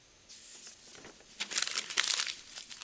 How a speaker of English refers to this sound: I got a sheet of paper. I'm going to get it small and smaller and smaller. I can't even get it the size of a pinhead.